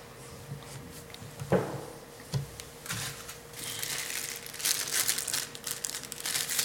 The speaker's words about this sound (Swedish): Jag tar fram papper, men det är inte för att jag gråter den här gången än så länge. Jag behöver nog ha lite för jag är inte riktigt sådär. Jag är lite snorig.